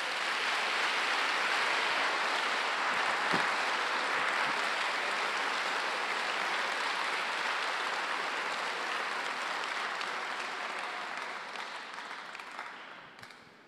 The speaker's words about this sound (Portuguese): Se vier para aplaudir, aplauda forte.